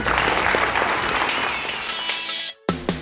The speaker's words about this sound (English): Join me in a round of applause for Nancy Reagan.